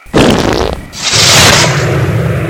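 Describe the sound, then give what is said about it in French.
A stick of dynamite explodes, blowing a tree into the air: a sudden muffled blast with a deep low rumble, quickly followed by a loud hissing whoosh of debris and air that sustains for over a second before fading. No voices. “je vais plutôt utiliser ce bâton de dynamite à explosion silencieuse, ma toute dernière invention, une poudre spéciale.”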